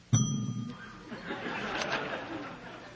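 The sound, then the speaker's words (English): A single bright bell ding, an effect used during a talk to mark a section break, rings out sharply and lingers with a fading metallic tone, while an audience murmurs and chuckles softly in the background. “The bell is just a cheap effect I have grown attached to, and I often use it when giving a talk.”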